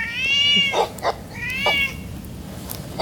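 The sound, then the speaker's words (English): Two drawn-out, high-pitched cat meows follow one after another, each with a bright harmonic tone and a short sharp ending, heard clearly with no talking. “And finally, we'll do dog and cat.”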